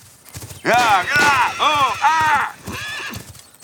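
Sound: horses galloping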